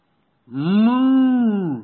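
A single long cow moo, loud, swelling in with a steady low drone and fading out after more than a second, with no talking around it.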